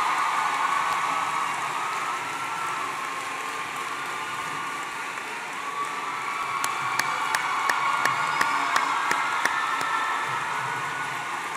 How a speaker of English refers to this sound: Let's give all the teachers at Central High a round of applause.